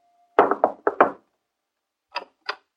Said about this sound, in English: The very next morning, I knocked at their door again.